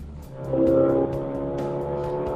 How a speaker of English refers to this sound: Are you a car guy? Is that the kind of thing that kind of make your heart race? Listening? Hearing vroom vrooms and stuff. Yeah. The racing, huge, powerful engine. It's cool. I like it. He has a turbocharged 2-liter engine with 370 horsepower